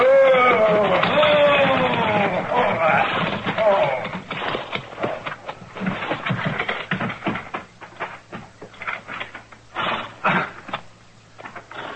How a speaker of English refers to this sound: There's a wagon pulling into the yard. Why, that's the same... Same what? He's a peddler. Tinware and stuff.